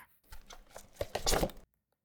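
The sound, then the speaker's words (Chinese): A confidentially shipped prize package is torn open and unwrapped: a quick burst of ripping and crinkling, growing denser and louder for about a second and a half, then stopping abruptly. “来，我帮你拆开吧。”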